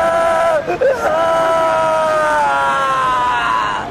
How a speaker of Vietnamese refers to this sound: Bên ngoài lều, tiếng la hét xen lẫn tiếng văn tục của những gã say rượu vọng vào lều mỗi lúc một to dần.